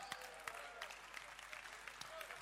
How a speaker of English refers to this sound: I'm glad you are clapping your hands.